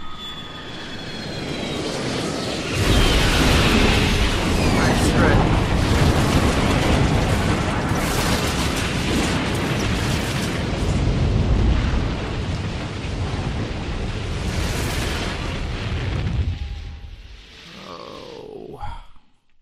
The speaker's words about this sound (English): Skyracer crashed into a magical barrier and was destroyed.